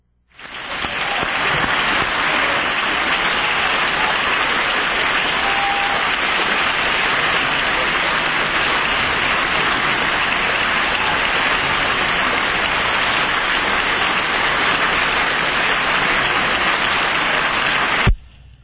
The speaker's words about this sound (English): He's hobbling up, I think, to the podium is what's going on. And we've heard the applause.